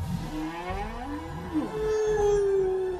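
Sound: whale call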